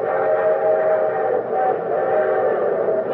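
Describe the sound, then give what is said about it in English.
A train loaded with war supplies pulls out for Moscow, its whistle sounding continuously over the steady rumble, with a sustained, fairly loud tone that holds throughout and dips only briefly. “As soon as one train pulled out, an empty one took its place to be loaded and hurried off to Moscow.”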